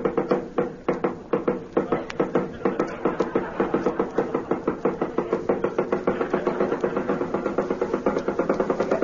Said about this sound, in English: Somebody knock? Tea house of August Goon?